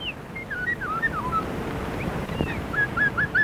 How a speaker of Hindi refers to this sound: अरे, चिड़ियों का गाना तो सुनो।